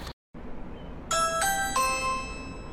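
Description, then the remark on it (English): A Ring smart video doorbell rings out a bright, melodic chime of three descending tones, each ringing on briefly over a low background hum, clear with no one speaking. “Oh, another one of those Ring doorbells. Mm-hmm. Smart doorbells, I should say.”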